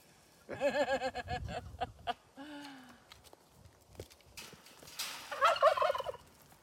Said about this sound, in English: A guinea hen? Or something? Or is that a turkey? That's a turkey, I think. The big guy.